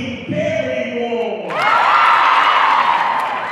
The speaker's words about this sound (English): The energy in the gym is electric. Everyone is stomping and cheering.